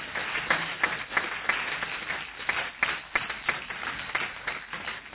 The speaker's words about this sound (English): Give us another clap offering.